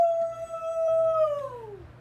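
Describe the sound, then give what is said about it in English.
A voice imitates a Sasquatch yell: one long, high, howl-like wail that holds a steady pitch, then slides downward as it fades, lasting about two seconds with no talking. “give us Sasquatch yell real quick.”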